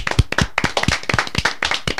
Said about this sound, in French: Mais sinon, bah merci beaucoup, hein. on va l'applaudir une première fois. On va l'applaudir une deuxième fois.